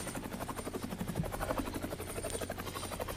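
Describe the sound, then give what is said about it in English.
A helicopter rotor sound effect thumps in a steady, rapid chop over a constant engine drone, fairly loud, with no voices. “Even if we were to try to talk like this, maybe we should just do a helicopter sound effect.”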